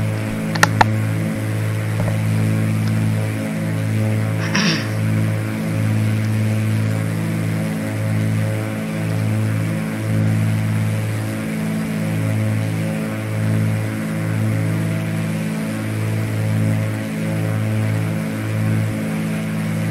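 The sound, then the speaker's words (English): A steady aircraft engine drones on at an altitude of about 3,800 feet with a slightly uneven, throbbing pulse, its low hum wavering rhythmically rather than running perfectly smooth, constant throughout with no voices. “The engine sounds just a bit weird.”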